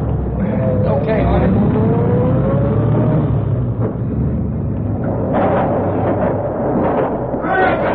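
Car engines rumble loudly and steadily throughout, one revving with a rising whine early on as a car drives in through an opened door, followed by a burst of rushing noise as police squad cars pass by.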